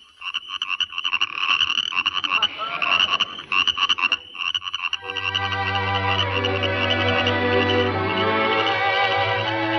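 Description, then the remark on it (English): A dense chorus of frogs croaking alongside rapid, high chirping of crickets, loud, shifting midway into a steadier, deeper droning croak that continues to the end. No one speaks. “Yes, sir, we'd really get a big bang out of hearing some good old frogs and crickets.”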